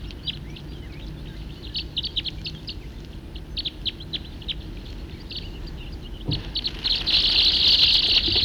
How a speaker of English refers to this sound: Recording the same birds.